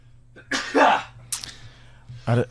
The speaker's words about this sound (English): Let me share my sneeze with you first thing on a Monday.